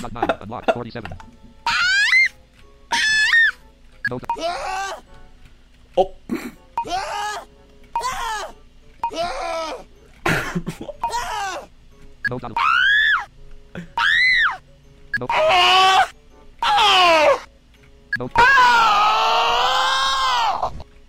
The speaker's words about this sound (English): Well, damn, made that one sound angry. Dude, that was screaming.